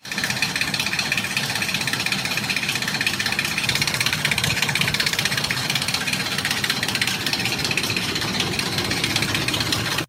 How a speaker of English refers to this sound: The slapping or rattling sound may occur more frequently when the throttle is snapped, confirming that a timing chain is faulty. This is what a timing chain knock sounds like. Let's listen.